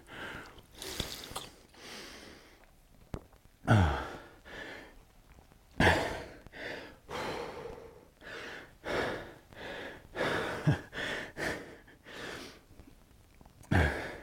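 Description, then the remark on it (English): Heavy, ragged breathing: sharp gasping inhales and puffing exhales in an uneven rhythm, with occasional sniffs and mouth noises, and no speech. “Take a moment to breathe. It's important to control your breathing.”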